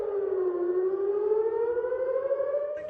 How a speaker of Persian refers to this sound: آژیر خطر و وحشت صهیونیست‌ها از انفجار پیاپی در قلب سرزمین‌های اشغالی.